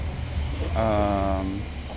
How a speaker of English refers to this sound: And I also like it when the trains go over it.